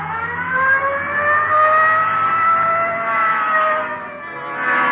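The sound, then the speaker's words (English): A police car siren wails steadily and loudly as the patrol car responds Code 3 to a 211 and shooting call at the corner of Hill and Geneva Alley, its rising and falling tone sweeping slowly up and down with road noise underneath and no voices. “211 and shooting. Code 3. Hit the light. Yeah, come on. Let's roll.”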